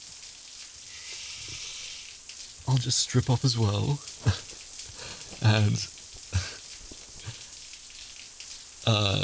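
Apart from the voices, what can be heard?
shower water running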